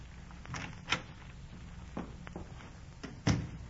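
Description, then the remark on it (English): A door is opened and shut: a few sharp latch clicks and handle rattles spread out over a few seconds, ending in a firmer closing thump, with no voices. “Oh, don't try to get up, Mr. Chipping. I see the door.”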